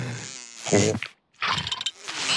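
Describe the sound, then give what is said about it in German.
A fly buzzes loudly in two droning bursts split by a short pause, its pitch wavering up and down as it whirs around. “Fliege, aber du störst doch die Spinnen mit deinem lauten Gesumse.”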